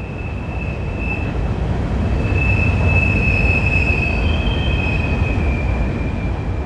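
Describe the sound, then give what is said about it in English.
A freight train rumbles past at close range on a railroad line right alongside a tent site in Boiling Springs on the mid-Atlantic section of the Appalachian Trail, loud and steady, with a piercing high wheel squeal ringing over the heavy clattering roar throughout. “But yeah, I got a recording of that train on my phone because I was like, that's so insanely loud.”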